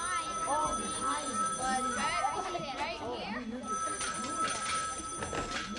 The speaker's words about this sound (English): They were still at it when the phone rang.